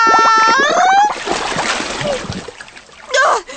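A short burst of a voice, then turbulent water splashing and churning as a leaking homemade boat loses air and sinks, ending with one more loud splash.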